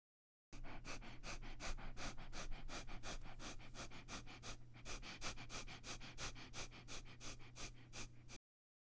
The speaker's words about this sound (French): Après un ou deux cycles respiratoires sur le rythme habituel, vous pourrez faire la respiration abdominale rapide avec la tête penchée en arrière.